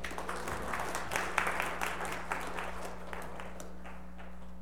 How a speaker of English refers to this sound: Round of applause for sure.